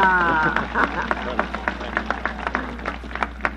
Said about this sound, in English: One more applause. Come on, let's make her feel this.